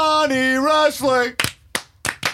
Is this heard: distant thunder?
no